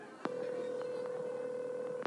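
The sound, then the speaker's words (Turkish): A single long, steady ringing tone heard through a phone line after a number is dialed, lasting nearly two seconds and framed by faint clicks at the start and end, with no one talking. “Çalıyor.”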